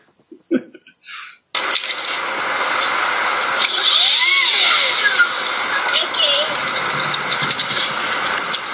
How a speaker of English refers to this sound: But he finds a leaf blower and decides, you know what would be cool? If I put this leaf blower between my legs and I skated with it, and it was like a jet engine.